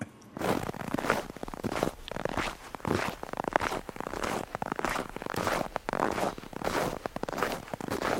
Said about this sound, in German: Und ja, im Herbst gibt es natürlich Schritte im Laub und schon ist der Winter da.